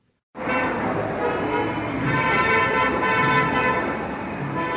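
Car horns blare almost nonstop over the steady roar of dense city traffic in Cairo, several overlapping honks, loud from start to finish.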